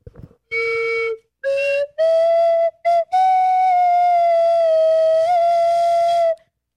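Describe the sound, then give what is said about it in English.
A slide whistle plays a short, halting melody: a few separate notes, then one long held tone that wavers and bends slightly in pitch. Loud and clear, with no voices. “This is "Here Comes the Bride." Played by Allie Gibbs on a slide whistle.”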